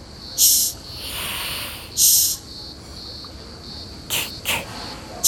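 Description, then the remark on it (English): Australian rhinoceros beetles hissing: two longer, airy hisses followed by two shorter, sharper bursts, all high and breathy, over a steady faint insect-like whine, with no talking. “That is some excellent hissing, little rhino beetles.”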